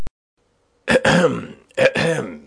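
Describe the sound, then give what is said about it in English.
Two distinct throaty coughs, fairly loud, each a sharp burst trailing into a rough rasp, separated by a brief pause with no talking. “Oh, don't cough, ….”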